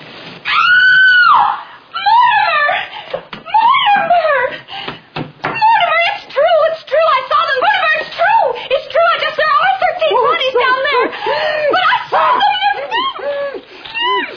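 Loud, frantic screaming rings out almost continuously, with high wavering shrieks and yelps following one after another, broken only by brief gaps.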